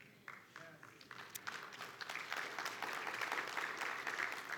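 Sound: audience clapping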